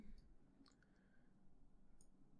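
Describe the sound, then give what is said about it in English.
Faint, sparse clicking and light papery taps of an exploration deck of cards being shuffled during a card game, a few soft snaps spread over a couple of seconds against a quiet low hum, with no one talking. “Let's shuffle up the exploration deck.”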